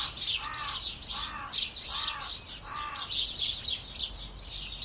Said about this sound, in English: It's the house sparrows flock.